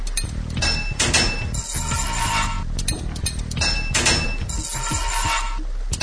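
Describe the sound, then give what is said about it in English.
Video game sound effects of a valve being hammered into place after the player presses enter to fit it: a loud, rapid series of metallic clanks and thunks with bright ringing overtones, continuing for several seconds with no talking. “Hammered it in.”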